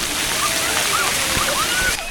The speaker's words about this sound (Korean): 시원한 물줄기를 쏟아내는 청계천의 인공폭포도